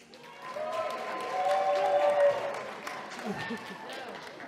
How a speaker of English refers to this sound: could you applaud and cheer wildly now, please?